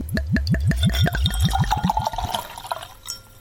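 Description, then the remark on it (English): Wine glugs out of a bottle into a glass in a quick run of rhythmic, hollow gurgles, then tapers into a lighter trickle and splash before stopping. Fairly loud, with no voices. “Well, let's take a little pour and see what we come up with.”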